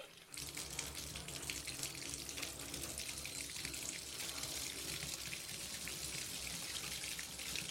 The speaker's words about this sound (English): I didn't like taking baths. Sometimes I would run a bath, then swish the water back and forth with my hand, pretending to get into it.